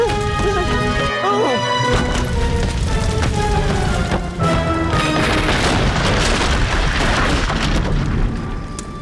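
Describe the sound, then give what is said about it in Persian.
A burning house collapsing in a long, loud rumbling crash, with heavy booms and crumbling debris roaring steadily for several seconds over a sustained tonal backdrop, no speech. “وقت او تیر شد خانه پشت سرش پایین افتاد.”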